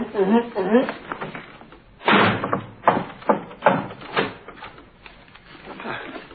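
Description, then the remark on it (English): A door slams shut, then three sharp knocks follow at a steady pace before the door opens again, with brief voices heard at the start. “I shall walk out the door, close it, knock three times, enter, and you will all be gone.”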